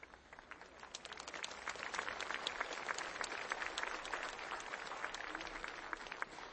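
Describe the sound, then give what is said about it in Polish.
Sustained audience applause at a gathering of the Redemptorist audience, welcoming the provincial superior of the Warsaw province: many hands clapping in a dense, steady wash that holds at an even level for several seconds without any speech. “Bóg zapłać za te oklaski.”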